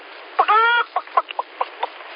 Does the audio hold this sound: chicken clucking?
yes